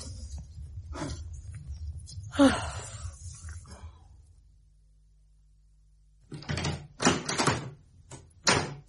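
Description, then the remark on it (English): A door handle rattles and clatters in several sharp bursts as someone tries a locked door, with a quiet pause between an earlier round of knocking and the later jiggling. “This door is locked.”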